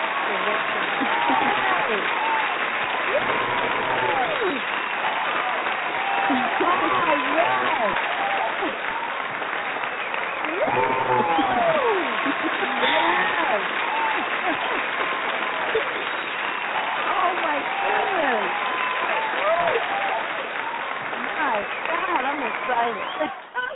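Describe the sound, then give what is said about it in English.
Sustained audience applause, a dense steady patter of clapping mixed with cheering and whooping voices, holding at an even, loud level for over twenty seconds. “So I think that right there is enough for all of us to just give you a big applause.”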